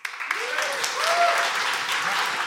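An audience at the McCulloch Comedy Festival (MacFest) bursts into loud, sustained applause, voting by applause on which side is in the right: a dense wash of clapping that holds steady throughout, with a few rising whoops and cheers mixed in near the start.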